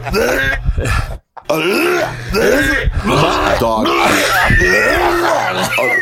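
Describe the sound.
Loud, repeated gagging and retching from a person, a run of strained, croaking heaves with rising and falling pitch, broken by a brief pause near the start and continuing almost without a break.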